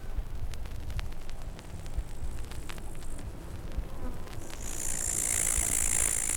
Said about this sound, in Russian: Вы слышите, как причудливо сливаются эти звуки? Треск кузнечиков, жужжание комаров и дыхание завода.